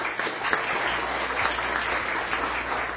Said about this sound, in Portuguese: Já está conosco a relatora desta CPI, a deputada Isaura Lemos. Uma salva de palmas.